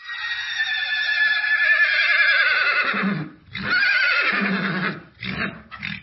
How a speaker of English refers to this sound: They don't whinny like the horses up at Karlsruhe.